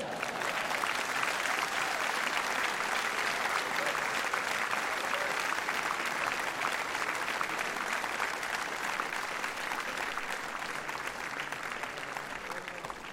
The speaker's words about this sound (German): Du hörst den Applaus